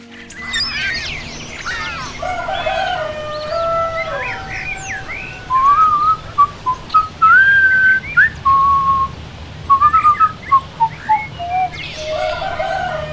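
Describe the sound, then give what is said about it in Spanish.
A man in a T-shirt and shorts whistles a tuneful melody as he starts his day in the morning, the clear notes rising and falling in short phrases, with birds chirping and tweeting in the background throughout. “en camiseta y pantalones cortos, inicia su jornada silbando una canción.”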